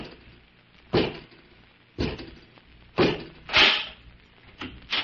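door being opened

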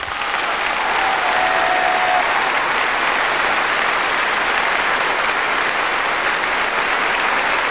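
applause sound effect

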